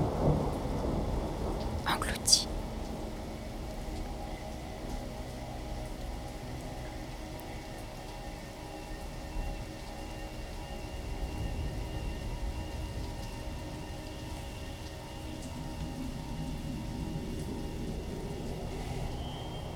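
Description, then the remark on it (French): Torrential rain pours steadily throughout with a dense, hissing roar, while low thunder rumbles underneath and a sharp crack breaks through early on. “Pluie diluvienne, en sueur, mouillée, raidie, vague de chair.”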